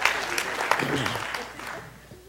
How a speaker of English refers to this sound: Some clapping.